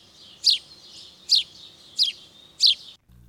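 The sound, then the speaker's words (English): A house sparrow, a common introduced English sparrow, gives four harsh, unmusical chirps at a steady, evenly spaced rhythm, clear, with a faint thin twitter filling the gaps and no voices. “The common introduced English sparrows have a distinctly non-melodic call.”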